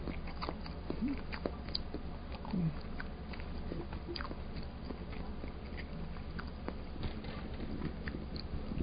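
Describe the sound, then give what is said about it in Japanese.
Chewing of quail eggs with steady wet, clicky mouth sounds and soft crunches, continuous for several seconds over a low background hum, with no talking. “うずらを食べている咀嚼音で終わりましょう。”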